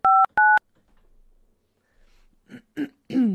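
Two quick, steady dual-tone keypad beeps from a phone being dialed, followed by a pause and then a few rough, throaty bursts like someone clearing their throat.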